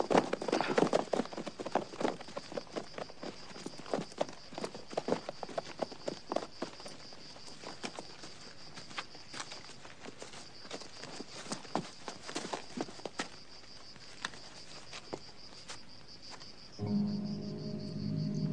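Several horses' hooves clip-clop in an uneven, overlapping patter over a steady high chirping of crickets; near the end the hoofbeats give way to a brief low, tonal sound.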